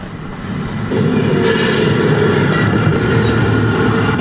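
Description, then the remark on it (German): A train roars past without stopping, a steady heavy rumble of rolling wheels that swells after the first second, with a brief airy hiss partway through. No voices. “Selbst der Zug fährt einfach durch.”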